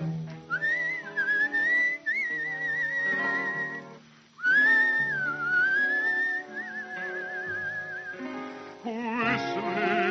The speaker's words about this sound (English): Pony plugs along and beats a tattoo on the ground. Cowboy whistles bravely to create a human sound.